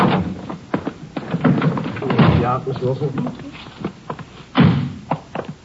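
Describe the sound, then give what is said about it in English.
A door is handled: a series of clicks, knocks and thuds as it opens and shuts, ending in a solid close, with muffled voices in the background. “Just a minute, I'll get the door here.”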